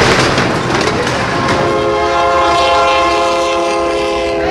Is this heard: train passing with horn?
yes